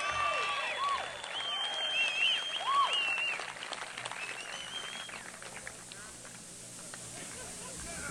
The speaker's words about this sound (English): Now clap for yourselves.